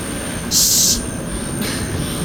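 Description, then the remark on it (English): One of Pruitt's drones flies steadily overhead at a beach, a low engine rumble with a sharp high-pitched whine that flares loudly for a moment, then returns more faintly. No one speaks. “One of Pruitt's drones.”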